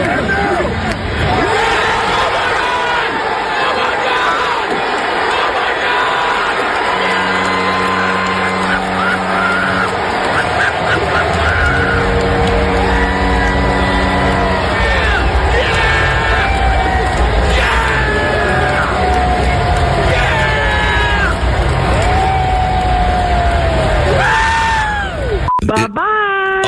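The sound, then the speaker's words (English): A large baseball stadium crowd, recorded on a phone, roars and cheers loudly and continuously, with rising shouts and whistles layered over a dense wall of voices, swelling as Fernando swings at the first pitch and hits a home run. “This is raw audio from my friend's phone as Fernando swings out of his shoes at the first pitch.”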